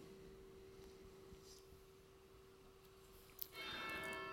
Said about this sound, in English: We gathered, we the faithful, when summoned by that bell. The small, the weak, the innocent, drawn towards its knell.